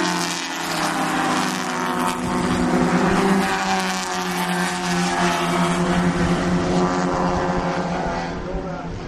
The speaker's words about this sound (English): It's the last race of the afternoon, so you will, hopefully you won't be hearing too much more.